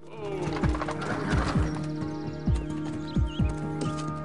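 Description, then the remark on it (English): Hooves clip-clop steadily on hard ground as a horse-drawn carriage comes up the drive at Stefan's in Mystic Falls, Virginia, 1864; the irregular thuds are fairly loud, with faint birdsong and creaking in the background. “A horse and carriage come up the drive at Stefan's.”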